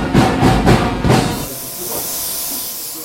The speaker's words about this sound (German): im Vereinsheim in Kirchzarten und sprüht ihre Bandkameradinnen Schminkfarbe ins Gesicht. Blau und Gold, die Signalfarben der ….